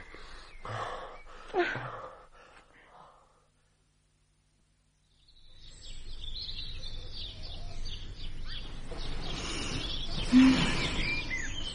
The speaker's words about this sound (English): Do you hear the birds? They sound louder than they did yesterday morning.